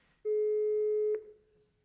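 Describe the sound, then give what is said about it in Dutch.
A single steady telephone busy tone sounds for just under a second, a flat electronic hum with a thin, slightly tinny quality from a phone on handsfree speaker during a call to a car garage, then cuts off. “Deze lijn is even in gesprek.”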